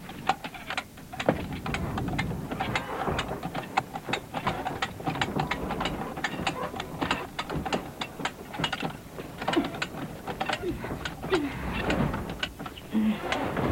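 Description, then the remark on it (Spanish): A car jack placed under a stuck gate ratchets steadily, its rapid metallic clicks repeating for the whole stretch, mixed with faint scraping and creaking as the gate strains to lift. “Coloca un gato bajo el portón y trata de izarlo.”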